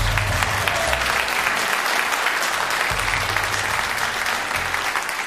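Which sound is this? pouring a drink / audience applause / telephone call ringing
audience applause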